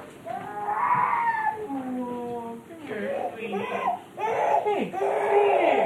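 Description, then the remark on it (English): An 8-month-old baby waking up from a nap wails in loud, drawn-out cries with wavering pitch, broken by short gasping pauses, continuing throughout. “Most instrument makers are not constantly interrupted by wailing infants or demands for popsicles.”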